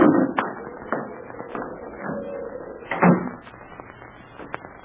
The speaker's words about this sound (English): Hey, the door blew open. I'll shut it.